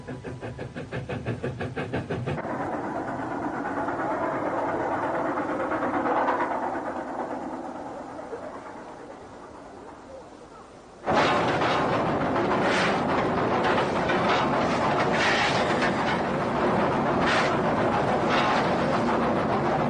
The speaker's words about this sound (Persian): تونل در سربالایی تندی قرار گرفته و برای کشیدن یک قطار با واگن‌های زیاد به دو لوکوموتیو نیاز است. عبور از این تونل برای لوکوموتیو ما که علی‌رغم سر و صدا و بخار زیاد کارایی چندانی نداشت بسیار مشکل بود.